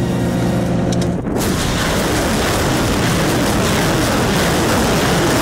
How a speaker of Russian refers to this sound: ВСУ показали расчет боемашины и системы залпового огня «Ураган», который защищает Николаевскую область и не дает российской армии подступиться со стороны Херсонщины. 10 огонь по цели. 10 снарядов огонь.